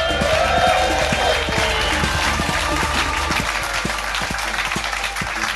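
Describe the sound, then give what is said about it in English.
An audience at the Leicester Square Theatre in London applauds steadily as comedian Richard Herring is welcomed on stage, a dense wash of many hands clapping at once that stays fairly loud throughout and eases off only slightly near the end, with no voices over it. “Just not quite loud enough clapping for my liking.”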